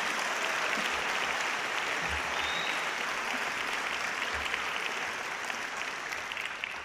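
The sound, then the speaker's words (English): An audience applauds a Peace Award recipient steadily for about seven seconds, a dense, even wash of many hands clapping at a constant loud level with no voices standing out. “Let's give her another applause, okay?”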